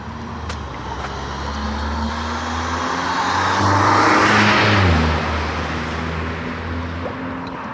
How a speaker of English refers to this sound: Old Cadillac, big boat.